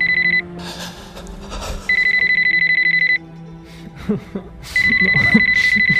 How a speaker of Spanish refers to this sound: Al día siguiente, tras un emotivo funeral, agotado y aún llorando por la pérdida de su gran amor, vuelve a su casa, donde tras varias horas de llantos desconsolados, empieza a recibir llamadas en su teléfono móvil.